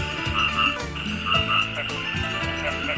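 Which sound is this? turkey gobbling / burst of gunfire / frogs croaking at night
frogs croaking at night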